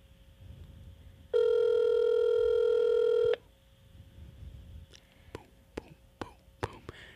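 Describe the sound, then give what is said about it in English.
A single steady ringback tone from an outgoing phone call rings for about two seconds, then cuts off, leaving faint background rustle and a few sharp clicks. “It's ringing.”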